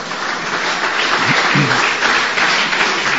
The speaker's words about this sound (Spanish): Mire cómo aplaude la señora, sí. Está. Cuando está muy entusiasta.